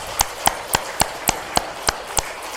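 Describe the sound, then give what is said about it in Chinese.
An audience claps in praise of God in a steady, even rhythm, about nine sharp claps struck together in unison at a brisk pace, with no talking over them. “我想鼓励大家，做了这么久，我们首先做一点小运动，我们鼓鼓掌，我们给我们的神鼓掌好不好？”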